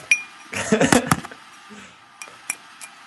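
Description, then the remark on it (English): Metallic clinks and knocks as cans are handled and set up to be knocked over, a cluster of overlapping clatters early on, then a few sharp isolated taps spaced apart. “No, we're setting up the cans now.”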